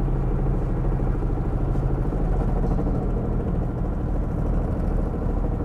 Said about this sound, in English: So when it's time to be patient, guys, my car sounds horrible. I'm sorry, guys.